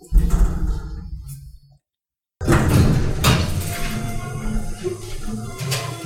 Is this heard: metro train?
no